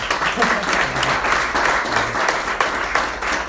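An audience applauds steadily, a dense, continuous wash of many hands clapping at even loudness throughout, with faint murmuring voices mixed underneath.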